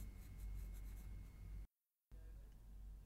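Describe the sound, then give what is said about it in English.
A pencil scratches steadily across paper, faint, as a candidate makes notes to prepare a spoken answer, with a brief pause of silence partway through before the soft writing resumes. “Here is a pencil and paper to make notes.”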